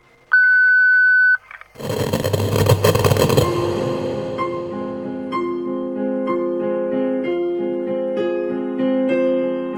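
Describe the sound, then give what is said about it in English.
A single steady electronic answering-machine beep lasting about a second, followed after a brief pause by a loud noisy burst that settles into sustained, layered musical tones. “Leave your message and your email address after the beep.”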